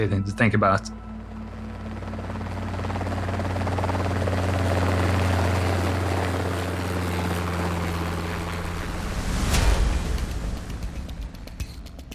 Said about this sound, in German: Von diesem Helikopter stammen die Bilder, die wir aus dem Fernsehen kennen. Verwackelte Luftaufnahmen vom zerklüfteten Ufer, übersät mit bunten und weißen Punkten.